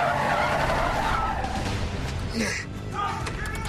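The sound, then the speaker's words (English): A van screeches into a parking lot with loud, sustained tire squeal and a roaring engine, the skid ringing through the whole stretch and ending with a short, sharp screech near the end. “Bill's van screams into the lot behind Tony.”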